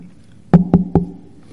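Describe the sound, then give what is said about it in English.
Three quick, evenly spaced knocks on a wooden door, solid with a hollow thud, heard alone against a quiet background. “Oh, somebody's at the door.”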